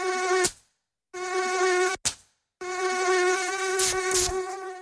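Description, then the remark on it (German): A mosquito whines in three bursts, its steady high-pitched buzz cutting out briefly between them, with a few sharp clicks near the end. “Antibrum, der wirksame Schutz gegen Mücken und Zecken.”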